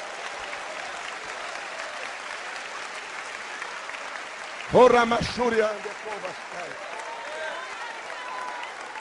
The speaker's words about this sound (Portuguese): Aplauda o Senhor e sirva.